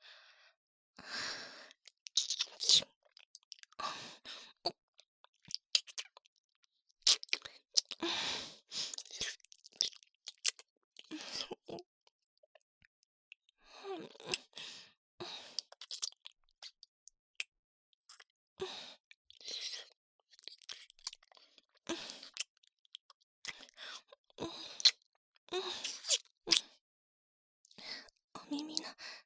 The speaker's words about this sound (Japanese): いいよ、お姉さん頑張ってキスしてあげる。吐息も唾液もたっぷり使って。